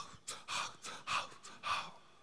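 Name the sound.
imitated gasping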